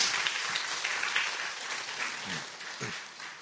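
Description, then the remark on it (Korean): A church audience applauds steadily to welcome four visiting family members as they stand, many hands clapping in a dense, continuous patter that fills the whole stretch at moderate loudness, with a few faint voices murmuring underneath. “우리 가족들 네 분 다 같이 잠깐 일어나시면 우리 박수하도록 하겠습니다.”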